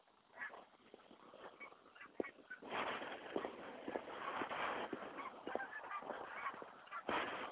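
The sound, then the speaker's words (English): A big skein of geese honks overhead on a snowy day, starting sparse, then building after a few seconds into a dense, overlapping chorus of calls that stays steady. “Here comes a big skein of geese.”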